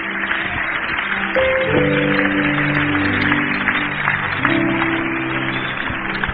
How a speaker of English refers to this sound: Clap your hands. Hallelujah.